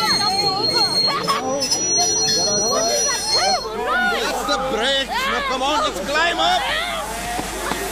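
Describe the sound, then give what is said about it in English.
A huge train rolls in at a station platform with a steady rumble and high metallic wheel squeals, while a crowd of voices chatters loudly throughout. “Stand back, everyone! Appu, don't stand so near the edge. Stand further back. What a huge train it is!”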